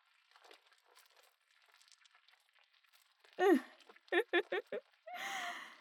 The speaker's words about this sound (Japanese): スライムがうぞうぞと足を這い上がってきたわね。スライムってひんやりしていて気持ちいいでしょ。